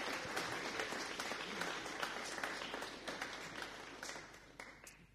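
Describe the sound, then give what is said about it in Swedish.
Steady applause from a small group at Johanneskyrkan, greeting the presentation of the church's new logo, fills the whole stretch: dense overlapping hand claps at an even level that taper slightly toward the end. “En applåd.”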